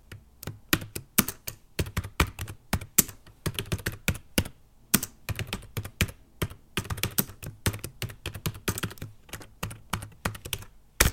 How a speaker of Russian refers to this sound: Он постоянно печатает, но, кажется, осознание, что клавиатура — это не печатная машинка, так к нам и не пришло. Поэтому, когда папа печатает, слышно примерно половине Москвы, как это происходит. Мы сделали аудиозапись того, как папа печатает обычно.